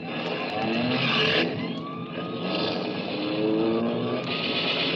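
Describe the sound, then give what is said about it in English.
A police prowl car approaches, roaring along with a loud, steady engine rumble, a wailing siren-like tone sweeping up and down through it for the whole stretch, with no voices. “Hey, Charlie, a prowl car.”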